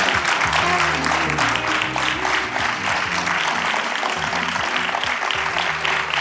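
An audience claps steadily and loudly for about six seconds to welcome two guests, a deputy editor-in-chief of Les Inrocks and a DJ: a dense continuous patter of many hands, with a low, stepping musical line playing underneath.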